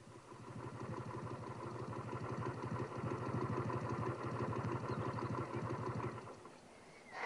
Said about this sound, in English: The motorbike I'm sitting on is a very special one. Special because it's been all the way around the world.